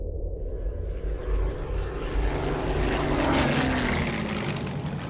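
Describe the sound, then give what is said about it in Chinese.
A loud, continuous drone of propeller aircraft engines passes overhead, a dense rumbling roar that swells slightly and holds steady, with no voices: American and British planes over the Normandy coast of France in the early hours of 6 June 1944, dropping paratrooper divisions. “6日凌晨，3000多架美英飞机把3个伞兵师空投到诺曼底海岸后边的重要地区。”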